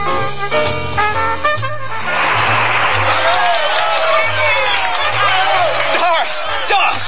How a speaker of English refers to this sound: Can you hear that applause? Can you hear them all through the concert? The crowd in London would have given you the same reception.